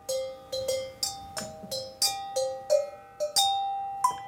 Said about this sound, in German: Das Glockenspiel ist über zwei bestimmte Oktaven angeordnet, montiert auf einer fahrbaren Lafette. Dieses Wagerl zieht der Musiker